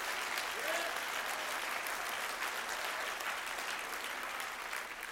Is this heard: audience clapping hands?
yes